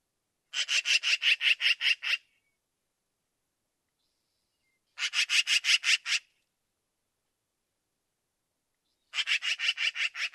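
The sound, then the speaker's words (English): Black-billed magpie chattering: three bursts of harsh, raspy notes, each a rapid run of about eight to ten even pulses, separated by silent pauses of a couple of seconds. “Okay, so we got a sample of the yap, yap, yapping.”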